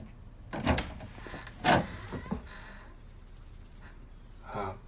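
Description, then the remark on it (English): Two sharp knocks on a door inside a house, spaced about a second apart, then a few softer clicks and rattles as the door is opened. No one speaks. “He looks at an illegible sign on another door beside him, knocks and enters.”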